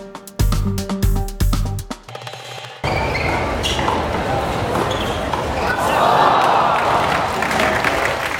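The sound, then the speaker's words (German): A short tonal, musical passage gives way to the steady roar of some 3000 tennis spectators cheering and applauding at a women's doubles match, Ash Barty and Julia Görges against Timea Babos and Kristina Mladenovic, swelling louder toward the end, with faint quick thumps of the players' footsteps underneath. “Das sind die schnellen Schritte von Ash Barty und Julia Georgis gegen Timea Barbos und Christina Mjadenovic. Und die Begeisterung von 3000 Menschen.”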